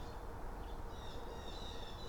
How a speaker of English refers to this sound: Hear that? You hear these birds complaining? That's over on the golf course.